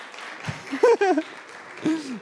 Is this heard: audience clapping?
yes